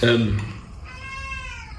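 A cat lets out a loud, drawn-out meow, its wavering cry stretching across most of the moment after a brief burst of sound at the start.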